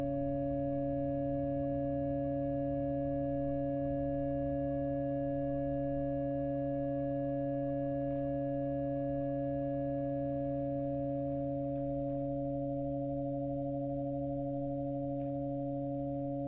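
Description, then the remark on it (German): Steady, sustained drone tones from Alvin Lucier's sound installation Empty Vessels in the bell tower of the Parochialkirche in Berlin, May 1999, several pure pitches layered and humming continuously at an even, moderate level with a low rumble beneath and no voices. “Er installierte dort im Glockenturm der Parochialkirche eigens seine Klanginstallation Empty Vessels, leere Gefäße.”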